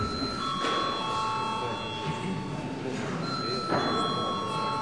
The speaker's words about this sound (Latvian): Un lūdzu, zvanu.